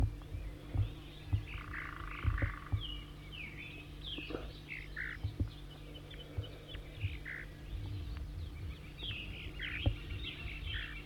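A bird, 4-3, sounding like a type 2 bird, gives a long run of short, thin, high zeezer calls, one after another, over a steady low hum with scattered croaks and other chirps in the background.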